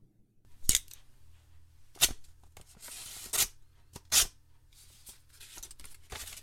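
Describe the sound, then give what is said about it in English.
Paper tearing: a few sharp rips spaced a second or so apart, with stretches of crinkly rustling in between, as an envelope marked "Dash Malone", found on a desk blotter, is torn open. No voices. “And sure enough, there was an envelope sitting square center on my desk blotter.”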